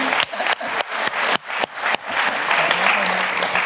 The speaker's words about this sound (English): Hey, applause.